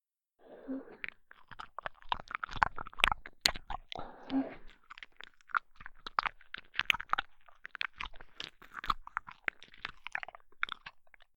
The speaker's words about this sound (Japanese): 耳の中を私の舌で侵されて、ぐっちゃぐっちゃ音がするたびに、体がビクンビクンしたり、下半身が熱く熱を帯びたように感じるのは人間として自然なことですよね。